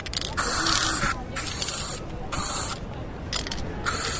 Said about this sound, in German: Also Ökokreidespray gezückt und losgesprüht.